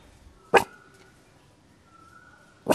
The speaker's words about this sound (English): He runs around the garden digging up plants and practicing his fierce bark on the local birds.